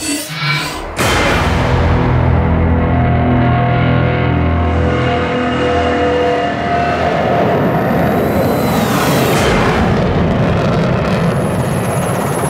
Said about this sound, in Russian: Вот начался заход Су-30. Он идет как раз сейчас на наш вертолет, кажется, проходит немного ниже и проходит точно под нами.